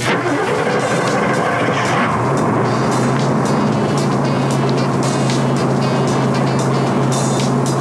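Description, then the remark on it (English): A Chevrolet 454 V8 engine in a motorhome cranks and catches, then settles into a loud, steady, throaty rumble that continues for several seconds, with no voices. “you've just heard a Chevrolet 454 engine starting.”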